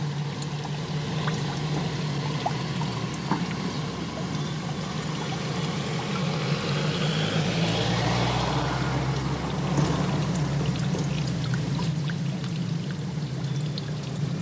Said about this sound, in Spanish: El sonido del agua. El sonido del agua.